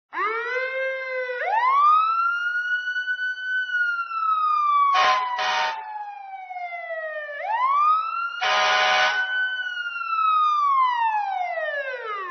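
A loud ambulance siren wails, sliding up and down in slow sweeps, broken twice by short, harsh blasts of a horn. No one speaks.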